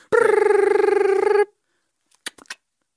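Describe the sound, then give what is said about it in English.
An old iPhone 3 rings while calling John Oates, a steady, buzzy mid-pitched electronic warble for over a second that then cuts off abruptly, followed by silence and a couple of short, quiet bursts of sound. “Well, there goes ringing.”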